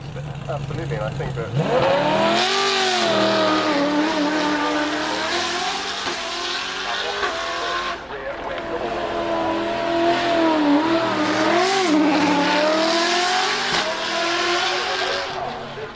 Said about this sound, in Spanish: Y no sé qué más agregar, pero les vamos a poner el sonido del V8. Este es en Goodwood. Es una locura.